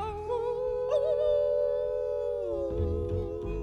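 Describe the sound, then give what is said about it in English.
A human voice howls like a wolf in one long, steady, wavering note that slides downward near the end, loud, with a low musical backing underneath. “We're gonna hoop and holler and howl at the moon.”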